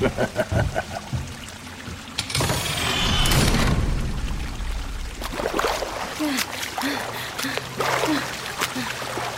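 Water gushes into a room, flooding it, with a loud, rushing surge that swells for a couple of seconds, then settles into steady sloshing and splashing, with faint voice-like grunts and breaths near the end.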